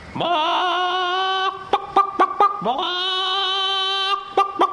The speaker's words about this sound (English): And I remember out in the backyard the hens used to scratch around the dirt.